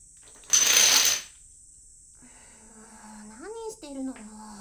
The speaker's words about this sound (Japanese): ドミノとドミノ倒しって別物だって兄さんは知ってる？今してるのがドミノ倒し。